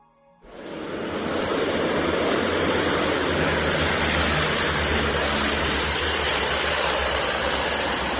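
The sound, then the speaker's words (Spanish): The engines of a Spanish Air Force 43 Group firefighting plane roar as it nears the sea to scoop water, a loud, steady, rushing drone with a low hum underneath, sustained throughout and without any voices. “Es el sonido de uno de los aviones de este grupo cuando se acercaba al mar para cargar agua.”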